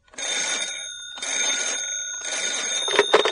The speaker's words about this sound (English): And then the phone rang.